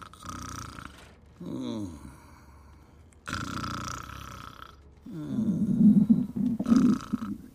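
Stomach growling in several gurgling bursts, low rumbles that wobble up and down in pitch, with brief pauses between them and the loudest, longest growl coming at the end.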